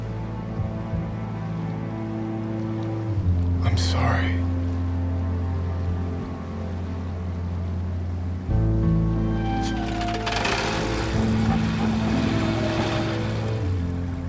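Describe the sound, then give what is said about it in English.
A motorboat engine drones steadily, its low hum shifting pitch partway through, with bursts of splashing water and wash rushing past the hull; Dexter Morgan driving his boat in the TV series Dexter. “So where is Dexter driving his boat, and where does his life go from there?”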